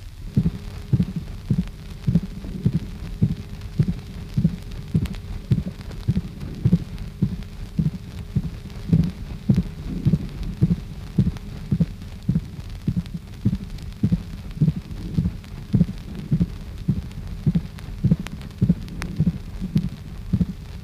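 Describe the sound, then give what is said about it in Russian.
A heartbeat with a gallop rhythm: a three-part rhythm in place of the normal two-part heart rhythm, resembling a galloping horse, with a weakened first tone. Low muffled thuds are grouped in steady triplets repeating throughout, heard alone as through a stethoscope, with a faint background hum. “При ритме галопа вместо нормального двухчленного ритма сердца слышен трехчленный ритм, напоминающий галоп скачущей лошади.”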